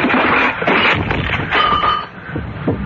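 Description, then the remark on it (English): A clock, pulled away from where it stood, topples and crashes down, a loud, dense burst of clattering and banging that rolls on for a few seconds, with brief metallic ringing tones mixed into the din. “Why are you pulling the clock away from that? Hey, look out! It's falling!”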